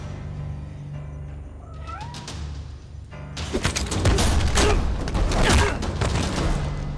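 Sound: cat meowing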